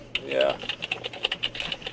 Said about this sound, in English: Are you sure you're typing my name? That sounds like a whole lot more typing than just looking up a screen name.